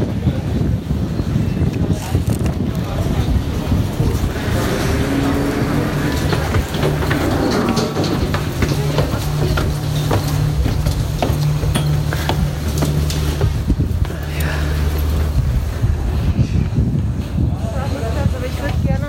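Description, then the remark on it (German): A steady, loud engine drone rumbles beneath constant wind buffeting the microphone aboard a motor vessel outdoors on a cold day after light drizzle, with muffled voices faintly audible through the noise. “So, wir sind jetzt an Bord.”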